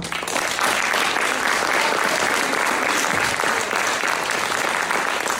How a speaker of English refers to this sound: Please remind everyone that all candidates have 1 minute, and your clapping does not allow them to finish their questions. So if you can hold anything till the end, that would help them speak when they're trying to answer the question.